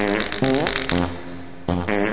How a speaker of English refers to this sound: All right, now let's end the fart sounds.